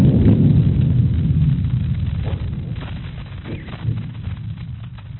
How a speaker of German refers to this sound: Das ist das Bolivienbeben, wo Sie die Eigenschwingungen der gesamten Erde hören. Das war jetzt gerade der Schlag, der dann die ganze Erde zum Klingen gebracht hat.